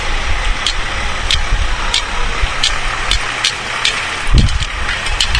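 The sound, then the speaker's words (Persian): Cars idle at an intersection-like crossing by a bridge, where cars stopped to let someone cross. A steady low engine rumble sits under constant traffic hiss, with faint regular ticks and a brief louder burst of rumble near the end. No one speaks. “قاعدش اینست که به یه پل اینجا رسیدیم، به یه حالت چهار راه مانند که من فکر کنم باید بپرسم و زرد رد بشن تا ماشینا وایستادن برام.”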